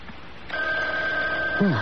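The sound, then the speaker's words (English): A telephone rings with a steady, sustained electronic tone that starts about half a second in and continues through the end. A brief voice murmurs underneath near the end. “Oh, it's the phone ringing, Mother.”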